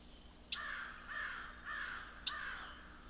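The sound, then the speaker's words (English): A crow caws nearby in a steady series of about four harsh, raspy calls, fairly loud and close, with no talking. “Have a crow nearby, and that will upset these birds too.”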